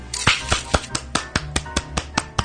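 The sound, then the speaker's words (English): One person clapping their hands about a dozen times in a steady, brisk rhythm. Each clap is a sharp, crisp slap, with no voices in between. “Is that just you applauding?”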